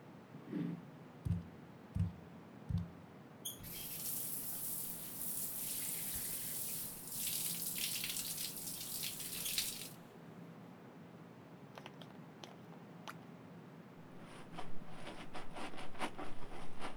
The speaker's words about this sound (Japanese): このままシャンプーも済ませて、一気にバーって流しちゃおうか。髪の毛洗っていくから、目つむってて。